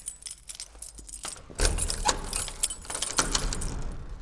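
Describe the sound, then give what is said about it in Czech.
A castellan's bunch of keys jangles at the château in Rajec nad Svitavou in February, in repeated metallic clinks and rattles, growing busier and louder after the first second and a half, with no one speaking. “Správný kastelán má vždy svazek klíčů”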